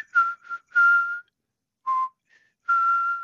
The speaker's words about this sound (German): Es gibt ja auch so einen speziellen Pfiff, den Sie haben. Den lassen Sie immer erklingen, wenn Sie in den Wald kommen.